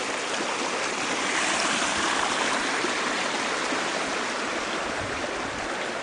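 creek water flowing

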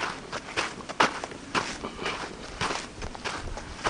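footsteps walking outdoors

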